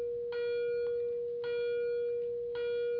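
A bell rings steadily, struck about three times at even intervals roughly a second apart, each strike adding bright overtones over a sustained ringing tone. No one speaks.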